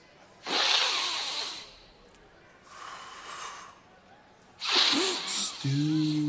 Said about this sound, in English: Let me show you a breathing exercise that I learned deep in the Himalayas.